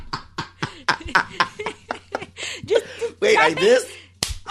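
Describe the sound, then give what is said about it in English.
Voices talk and chuckle, then a single sharp slap lands, a hand smacking someone's forehead, followed by a little more talking. “I wanted him to slap her in the forehead.”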